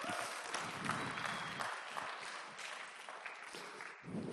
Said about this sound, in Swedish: Ge honom en applåd.